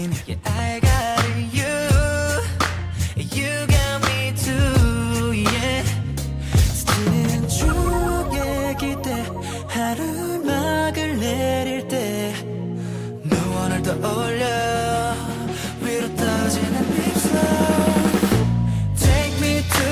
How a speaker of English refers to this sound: another song I did like on this album was …, and I'll play that now as well